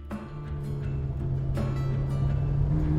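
Steady low rumble of a car's interior while driving, with a constant engine drone and road noise, punctuated by a few soft bumps and clicks, no voices.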